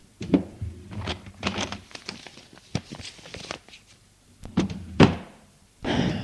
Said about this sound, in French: Il ouvre un tiroir et en sort des chemises.